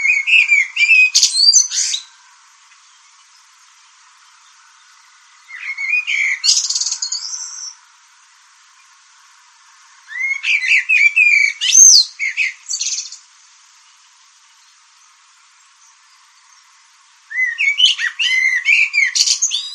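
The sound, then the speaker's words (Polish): A common blackbird sings alone in four separate phrases, each a couple of seconds long with pauses between, mixing fluty warbling notes with higher twittering flourishes, clear. “To na koniec naszego dzisiejszego spotkania jeszcze zaśpiewano na naszej antenie kos.”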